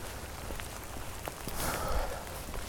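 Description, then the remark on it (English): Steady rain falls outdoors at Veterans Park under some trees, in very cold weather with a wind chill of 20-something degrees: a continuous hiss of drops with scattered sharper patters on surfaces and a low rumble beneath. No one speaks. “Now, safely on the opposite side of Veterans Park and sheltered by some trees, but the rain is still steadily falling and it's still very cold.”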